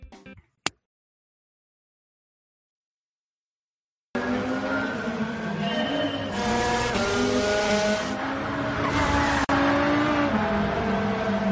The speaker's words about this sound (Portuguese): É o carro Mega Blaster do Gran Turismo correndo contra kart. Caraca, velho, que absurdo! Eu gosto muito desse vídeo. Mas é kart mesmo? Tem kart no Gran Turismo? Tem. Os kart girando, tudo fumaça.